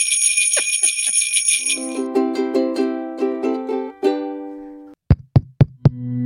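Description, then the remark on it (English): Bright, high bells ring steadily for a couple of seconds, then a quick run of struck, ringing notes plays a short tune, ending with four sharp knock-like hits. No one speaks. “And one last jingle bells for good luck.”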